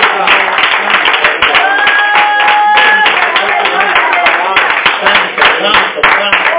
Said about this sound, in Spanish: A nombre de Cristo, a su nombre, dar una ofrenda de aplauso al Padre, al Hijo y al Espíritu Santo de Dios esta mañana.